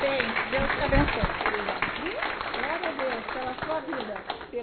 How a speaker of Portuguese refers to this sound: E eu quero que os irmãos dêem uma salva de palmas para o Senhor, porque ele merece toda a honra e toda a glória.